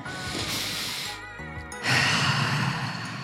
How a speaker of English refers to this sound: It's a breath in, all in through the mouth, fill the belly, fill the chest, and then let it out through the mouth.